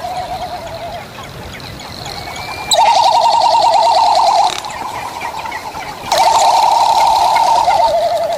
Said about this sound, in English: This is a frigate bird. This is the male, and you'll see the females in a minute.